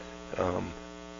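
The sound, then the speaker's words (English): A single short sneeze bursts out over a steady low electrical hum, then the hum carries on alone. “Excuse me, had to sneeze.”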